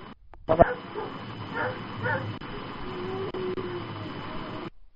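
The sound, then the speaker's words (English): Dogs bark in muffled, telephone-quality bursts, a sharp bark near the start followed by scattered yips and barks over a steady background hiss. “Who's got the dogs barking?”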